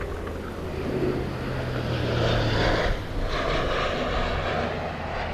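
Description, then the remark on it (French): Belgian army airplanes roar overhead during morning military exercises at an airport, a loud, sustained engine rumble that swells slightly and shifts in tone as the aircraft pass, with a steady low drone beneath and no voices. “On entend des avions qui passent.”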